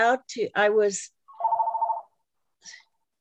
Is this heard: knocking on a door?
no